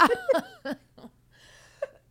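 A short run of raspy, hacking smoker's coughs, three quick bursts and then a couple of weaker ones after a pause, with no talking.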